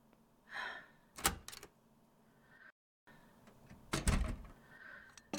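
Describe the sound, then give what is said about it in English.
A door is opened and handled to receive a food delivery, with a couple of sharp clunks and rattles separated by a pause, plus a soft breathy rustle beforehand. Nobody speaks. “There's the food. Get the door.”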